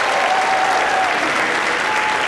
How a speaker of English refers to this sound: You have been amazing. Put your hands together for yourself.